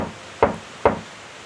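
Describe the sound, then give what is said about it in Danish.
Two firm knocks of a clenched fist on a flat open palm, standing in for knocking on an inn door, land about half a second apart, each a short dull thud with a quick decay, against a quiet background with no talking. “Prøv at knytte den ene hånd og bank så tre gange på den anden hånd, som stadig er flad.”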